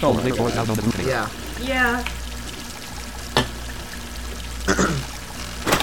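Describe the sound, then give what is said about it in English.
Coke being poured into a glass as the supply is about to run out, a steady fizzing crackle running throughout, with a brief stretch of voice at the start and a few sharp clicks later on. “I'm about to run out of coke.”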